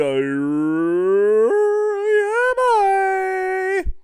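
dog howling

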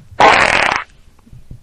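fart

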